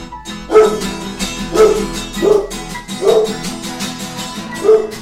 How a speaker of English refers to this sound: That dog's bite is worse than his bark. And that dog bark is fierce.